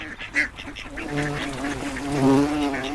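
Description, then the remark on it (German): A large bumblebee buzzes around a person's head, its droning hum wavering up and down in pitch as if circling, growing a little louder toward the end with no talking. “Aber eine dicke Hummel summt um meinen Kopf herum.”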